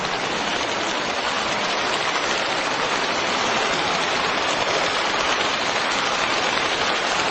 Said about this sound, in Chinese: 这么多的菩萨，我告诉你们，你们鼓掌的人都是有良心的，都是菩萨，你们很善良。